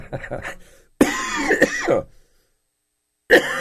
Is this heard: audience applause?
no